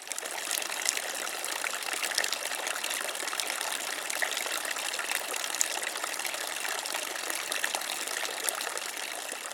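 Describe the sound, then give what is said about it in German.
Water from a public sculpted fountain in Warnemünde, made in 2004, splashes and rushes in a steady, continuous wash, even in loudness throughout, with no voices. “Der Brunnen ist während der Saison mit Wasserbetrieb zu bewundern.”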